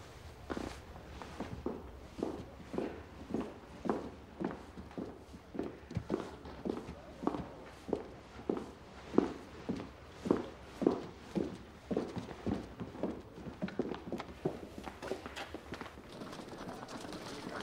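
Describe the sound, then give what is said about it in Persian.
Steady footsteps walk at an even pace for the whole stretch, each step a distinct thud landing roughly twice a second, moderately loud, with no voices. “بعد اجازه نمیدم حتی یه قدم دیگه برداری الزورس.”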